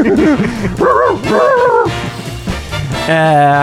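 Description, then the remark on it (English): Dogs bark and yip in a rapid string of high, whining cries, loud, with the yelps rising and falling in pitch over a few seconds. “I'm looking for the dogs.”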